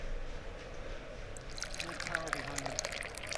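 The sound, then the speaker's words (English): Green tea pours into a cup, a bubbly, gurgling trickle starting after a moment of low background hum and continuing steadily to the end. “Yeah, I probably should be watching the race instead, but it's that commercial, so let's pour some tea.”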